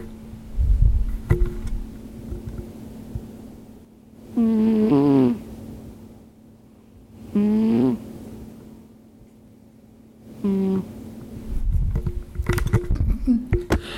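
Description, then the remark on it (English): A little gray cat snores while sleeping, with the microphone brought over to it: three short, whistly, tonal snores spaced a few seconds apart, with soft rustling and handling noise at the start and end. “Wasabi is my little gray cat and she's sleeping and she also snores.”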